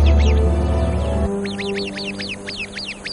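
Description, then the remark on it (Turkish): An Arabian babbler sentinel keeping watch atop a tree gives its sharp alarm call at a viper: a rapid run of about ten shrill, trilling chirps, loud, starting after a low rumble fades out. “Nöbetçi Arap kuşu hemen alarm verir.”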